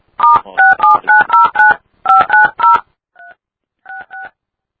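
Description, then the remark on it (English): A rapid run of telephone keypad dialing tones as someone dials a phone number on a three-way call, about a dozen short dual-pitched beeps in quick clusters, loud at first and then a few fainter ones at the end, with no voices. “give him a call before someone on default does”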